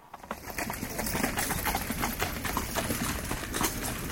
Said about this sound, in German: Ich höre schon Pferde. Nehmen wir die Kutsche.